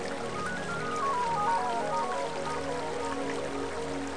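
Steady rain at night, pattering on a carpet of leaves over parched earth, a dense continuous hiss of drops with no pauses, while a soft, faint melodic line drifts underneath. No one speaks.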